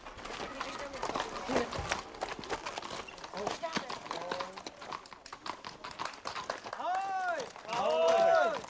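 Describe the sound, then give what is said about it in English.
Two mail riders' horses gallop round a bend in a country road on a hot Saturday afternoon, their hooves drumming in a fast, steady, loud clip-clop throughout, with a couple of sharp whinnies rising near the end. “And then suddenly, round the bend in the road, gallop up two riders.”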